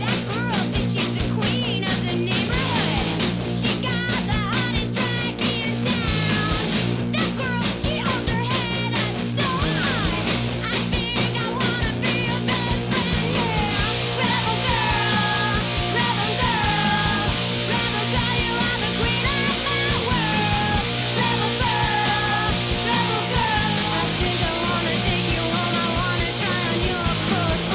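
A loud, driving feminist punk rock song from the riot grrrl movement, with shouted vocals over distorted guitars and pounding drums, played at full intensity throughout.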